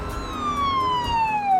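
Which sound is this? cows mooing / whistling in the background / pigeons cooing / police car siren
police car siren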